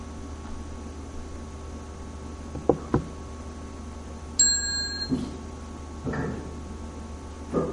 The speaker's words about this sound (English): there is the chime. Now we see the chime. It's behind the Buddha statue.